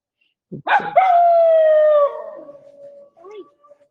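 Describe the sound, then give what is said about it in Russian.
A dog lets out a single long, loud howl that holds a steady pitch for about a second before sliding down and trailing off, with a brief bark-like yelp at the start and faint whines after. “Ну, тут кто-то воет. Они тут подпевают.”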